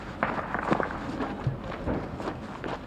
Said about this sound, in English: Still gunfire.